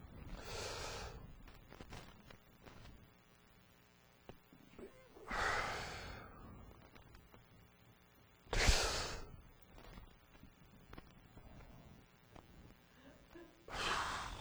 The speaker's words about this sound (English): See, what are you doing? I'm practicing deep breathing. So I don't kill you. It's called anger management.